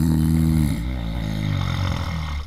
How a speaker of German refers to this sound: Das ist halt das Letzte, was du aus dem Cockpit im Flugzeug hören willst. Pilot und Co-Pilot schnarchen um die Wette und das Flugzeug fliegt eine halbe Stunde munter durch die Gegend, kommt einfach vom Kurs ab.